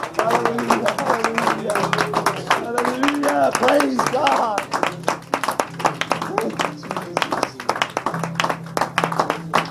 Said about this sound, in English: Let's just give the Lord a hand clap of praise and worship tonight. Hallelujah.